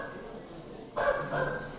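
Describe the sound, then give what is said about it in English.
Two short dog barks in quick succession, moderately loud, rising out of a low, steady background hum after nearly a second of near-quiet. “Dogs. We got dogs.”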